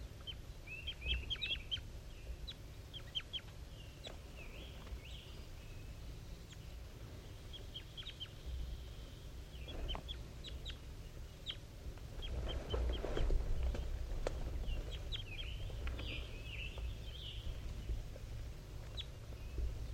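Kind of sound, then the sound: bird, wild bird calling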